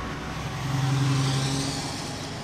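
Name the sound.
city street traffic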